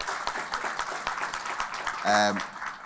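A crowd claps in a steady, dense patter throughout, with a brief loud pitched whoop rising over the applause near the end.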